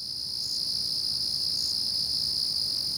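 wood crickets chirping

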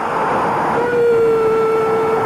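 stadium crowd atmosphere

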